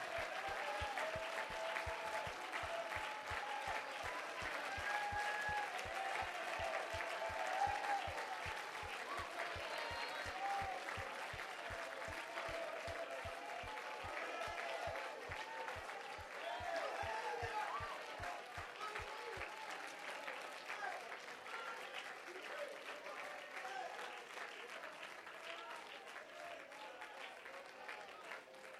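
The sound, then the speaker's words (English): A church audience claps steadily in praise of God for nearly half a minute, a dense, even wash of many hands. A regular low thumping pulse runs beneath for the first two-thirds, then drops away while the clapping continues. “Let's give God a good hand clap of praise for that.”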